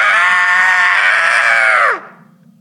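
An old man's sudden, loud, harsh, inhuman-sounding scream held steadily for about two seconds, then sliding down in pitch and cutting off abruptly, with no talking.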